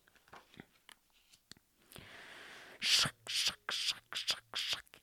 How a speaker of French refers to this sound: Lièvre et souris entendent des bruits de pas et encore une voix.